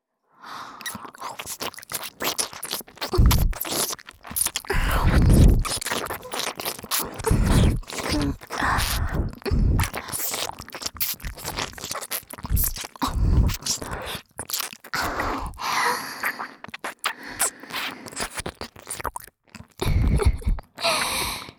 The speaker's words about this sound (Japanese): 勇者様ったら、口を開けてはぁはぁはぁいじゃって、耳なめでそれほど気持ちよくなってくれるなんて、サキュバス冥利につきますわ。